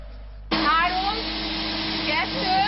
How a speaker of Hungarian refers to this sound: 3, 2, porszívó verseny! Egy 40 éves rakétaporszívó és egy mostani középkategóriás készülék viadalával kezdődött a porszívó verseny a fővárosi állatkertben.